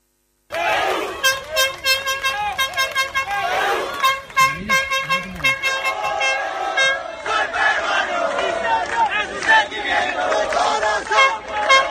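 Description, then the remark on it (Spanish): A dense crowd full of Peruvian fans roars and chants loudly at the presentation of footballer Advíncula, with shouts and horn-like blasts woven through the steady din of cheering that swells and pulses for the whole stretch. “Estaba lleno de peruanos la presentación de Advíncula.”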